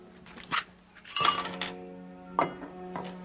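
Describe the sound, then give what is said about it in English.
A woman empties a small tin pot onto a table, franc coins clattering out in a burst of metallic clinks and jingles followed by a few scattered settling clinks, fairly quiet. “She empties a small tin pot onto the table.”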